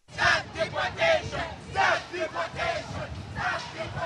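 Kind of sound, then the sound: crowd, protest crowd chanting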